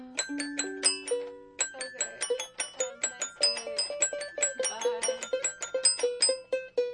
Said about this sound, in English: So I think I'm about to play. The xylophone sounds really shoo-shoo-esque. No matter what you play.